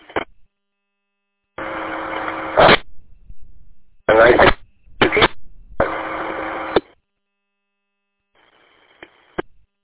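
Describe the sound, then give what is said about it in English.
Choppy bursts of a broken-up amateur radio transmission, received on Mackinac Island, cut in and out: loud static-filled fragments separated by abrupt silences, ending with a faint hiss and a brief click. “Station calling, this is KE8YDR on Mackinac Island. You're all broken up.”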